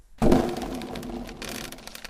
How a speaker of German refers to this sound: Der Donner hallte durch die Burgmauern, dass es nur so krachte.